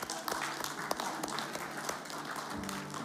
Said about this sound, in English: Let's give yourselves an applause one more time